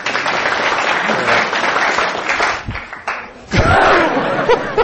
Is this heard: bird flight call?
no